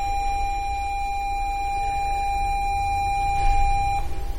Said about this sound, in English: That was the bell, sort of. And that was the final bell.